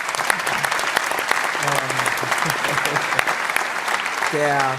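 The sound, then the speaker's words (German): A crowd applauds the press team with steady, dense clapping that fills the whole stretch, fairly loud, with voices calling out and chattering beneath the applause. “Applaus für alle von der PK.”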